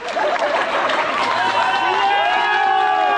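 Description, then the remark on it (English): Fellow police officers and members of the public applaud and cheer loudly as a wounded Lakewood police officer leaves the hospital in a wheelchair in the Denver area, with steady clapping and scattered shouts. Sustained whooping voices rise over the noise toward the end. “exited the hospital in a wheelchair and was showered with applause by fellow police officers and the public.”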